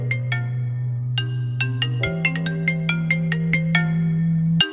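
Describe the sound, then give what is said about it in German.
A telephone rings with a melodic ringtone: bright chiming notes repeat quickly over a steady low tone that shifts up partway through. It plays loud, with no voices. “Das Telefon klingelt.”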